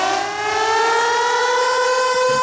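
A loud civil defense style alarm siren, the Purge alarm, played live on the radio station Radioactiva, wails steadily, its harmonic-rich tone sustained and slowly rising in pitch across the whole stretch, with no voices.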